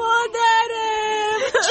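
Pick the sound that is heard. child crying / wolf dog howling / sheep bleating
child crying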